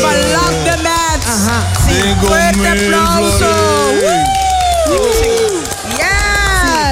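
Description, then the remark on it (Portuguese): A loud crowd cheers and applauds steadily, with many voices whooping and shouting in rising and falling pitches over a continuous wash of clapping. “Fuerte aplauso.”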